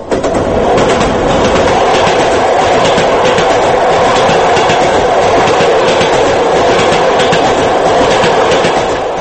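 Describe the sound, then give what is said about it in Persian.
A passenger train on the Dushanbe–Moscow route, travelling from Central Asia through Uzbekistan, Turkmenistan and Kazakhstan to Moscow, clatters steadily along the rails: a loud, continuous rumble with a fast repeating clickety-clack rhythm, as if heard from on board. No one speaks. “خبرنگاران بخش روسی رادیوی آزادی مومی شاکروف و الکساندر کولیگین با قطار دوشنبه مسکو از آسیای مرکزی به مسکو سفر کردند”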